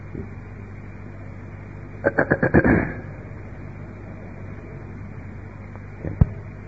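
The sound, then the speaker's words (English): A short electronic mobile phone ringtone chirps in a quick burst of about five pulses, then stops. A faint click follows later over a low background hum. “May I make a request that anybody that has a mobile phone turn it off or in vibrate mode, please?”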